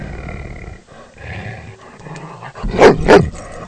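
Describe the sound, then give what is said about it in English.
A dog, Ranger, a 9-year-old chocolate dog, barks twice near the end, loud, after a stretch of low rumbling background noise with some faint movement. “Bark if you're happy. Bark if you're a dog.”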